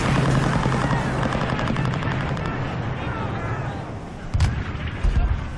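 Gunfire and shelling rage on a beach somewhere between Dunkirk and Le Pen, fire from German forces landing behind, on the flanks and above, in a constant, dense roar, with rapid cracks of shots layered over a deep rumble and a couple of heavier blasts bursting out near the end.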